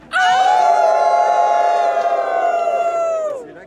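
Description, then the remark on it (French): A crowd of race participants, gathered before the start, howls together like wolves in one long, sustained, loud cry that holds steady for about three seconds before trailing off. “Est-ce qu'on peut jusqu'à aller à faire le hurlement du loup ensemble?”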